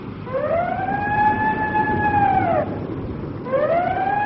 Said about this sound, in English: What the devil's going on over at the old ship? It's the skipper signaling. I can see him at the siren call. One long. Two shorts.